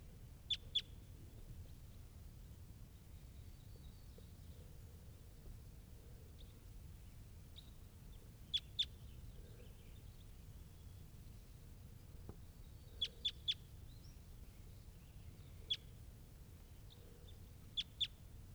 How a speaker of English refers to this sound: And there are some wild crossbills here, including this one up in the top of the tree.